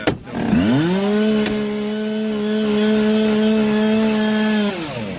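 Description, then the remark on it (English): A gas-powered chainsaw revs up, then holds a steady, loud buzzing drone with strong harmonics for several seconds before the pitch drops as it winds down at the end. “Yeah, that combustion engine is—it's the same. That's the white noise I use when I go to bed. Right next to your head. Yeah. Yeah, that sounds like a saw.”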